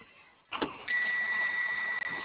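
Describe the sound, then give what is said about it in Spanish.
A car being locked remotely by a lock command sent during a phone call about a faulty panic button: after a short quiet moment comes a quick mechanical clunk, then a steady high-pitched electronic tone that holds to the end. No one speaks. “sí se bloquea el carro. Vale, le mando bloqueo.”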